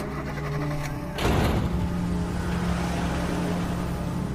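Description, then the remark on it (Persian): A car door shuts with a solid thud over a running engine as someone gets into the car outside the yard of an old house, then the motor keeps humming steadily as the car pulls away, with no voices. “میره سوار ماشین میشه.”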